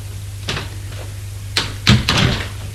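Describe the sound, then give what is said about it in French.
A mother handles her son's bedroom door: a few sharp knocks and clicks of the latch, then a louder clunk and rattle as it swings open, over a steady low hum. No one speaks. “Est tellement angoissée qu'elle ouvre la porte.”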